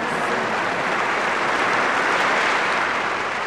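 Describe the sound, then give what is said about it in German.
A crowd of citizens of Rome applauds loudly and steadily as Pope Leo III crowns the Frankish king, the dense clapping forming a continuous roar of hand claps that holds its intensity throughout without any voices standing out. “Das Haupt des Franken gekrönt, beginnt er mit der rituellen Fußwaschung, während die Bischöfe die Krönungslitanei anstimmen und die anwesenden Bürger Roms heftigen Applaus spenden.”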